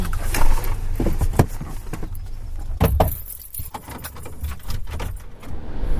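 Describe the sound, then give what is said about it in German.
Keys jangle in repeated bright, metallic bursts as a person goes to their car to fetch cigarettes, over a low rumble of a car or engine-like background; no talking. “Ich muss mal eben noch zum Auto, ich muss meine Kippen noch holen.”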